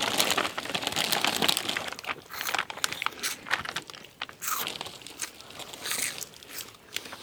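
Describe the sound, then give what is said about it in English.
Continuous crunching of Cheetos and chewing, with crisp crackles and occasional ripping or crinkling sounds as pieces of jerky are torn off, in a room around 3 in the morning, fairly loud and irregular throughout, with no one talking. “When we get back to the room, we crunch into tasty Cheetos and rip pieces of jerky off as we see what's on TV at 3 in the morning.”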